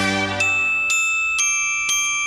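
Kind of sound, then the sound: bells being played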